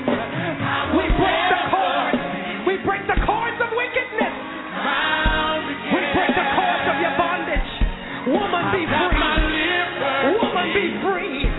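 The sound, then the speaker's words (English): An audience at a church worship service claps and cheers in a loud, sustained wash of noise, with shouts and yells rising above steady applause for the whole stretch. “Somebody clap your hands for these people.”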